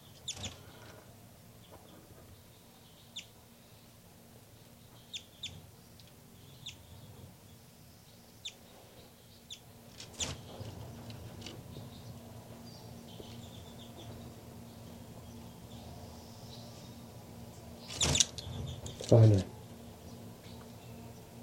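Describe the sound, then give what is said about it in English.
Baby birds calling on the nest: faint, thin, high peeps scattered irregularly over a low steady hum, with a couple of louder bursts of noise near the end. “Baby birds calling on the nest on the side here.”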